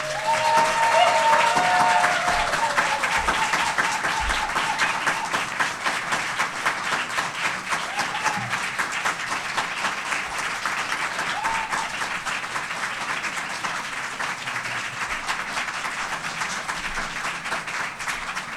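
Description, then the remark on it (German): An audience in Kiel applauds steadily for almost twenty seconds, applause meant for someone in Minneapolis, a dense wash of many hands clapping at once, loud at the start and easing only slightly, with a few faint voices calling out early on. “Jetzt mal ein Applaus für Minneapolis.”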